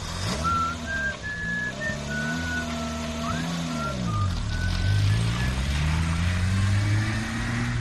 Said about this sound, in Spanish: Mientras sentía cómo se quemaba, escuchó el ruido de un coche que se alejaba y una especie de silbido.